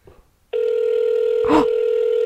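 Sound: telephone call ringing tone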